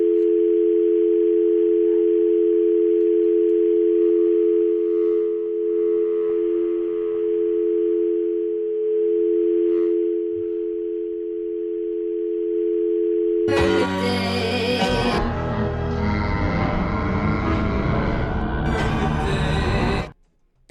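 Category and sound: signal or alarm, telephone dial tone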